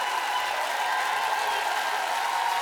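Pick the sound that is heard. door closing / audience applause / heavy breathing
audience applause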